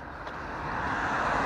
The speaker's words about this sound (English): It's New Year's Day, it's not busy out here. Traffic is very light.